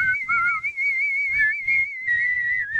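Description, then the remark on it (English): A sustained, wavering vibrato whistle holds one pitch for about three seconds, fairly loud, with soft low thumps and breathy rumbles underneath. “This guy, and he would do a vibrato whistle.”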